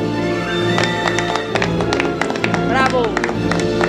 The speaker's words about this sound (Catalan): Aviam, sí que la música fa por, però aplaudiu amb més entusiasme, sisplau.